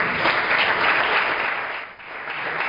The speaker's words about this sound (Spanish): Así que simplemente quería pedir una ovación, un aplauso para la Escuela Tauromaquia, porque creo que se lo merece.